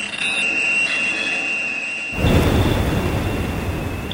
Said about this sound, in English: The industrial, intrusive noises of drilling rigs, boats, explosives. Humans are rude planet-scale hecklers, endangering marine life under the oceans.